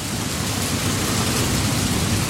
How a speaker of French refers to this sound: Rainy Mood. C'est un site qui fait de la pluie. Le bruit de la pluie. C'est une boucle audio d'un quart d'heure.